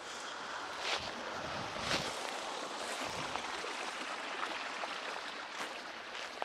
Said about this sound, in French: Et tu vois, donc là, normalement, c'est censé être plus haut, l'eau est vraiment suintée, et là, tout ça, c'est une cascade d'eau.